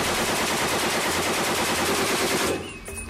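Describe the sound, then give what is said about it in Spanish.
Rapid, sustained automatic gunfire from a Colt heavy machine gun, which fires over 500 rounds per minute, rattles in a dense, unbroken stream of loud shots for about two and a half seconds, then cuts off, leaving a brief quieter tail. “o sea, una ametralladora Colt, como las que usaron en ese día, ¿no? Que eran ametralladoras pesadas. Disparaban más de 500 balas por minuto.”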